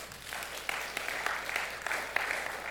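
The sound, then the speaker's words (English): A church audience applauds for a man in a steady, dense wash of clapping, with a few sharper individual claps standing out. The applause holds at an even, moderate level throughout, with no voices over it. “Let's just clap it up for him.”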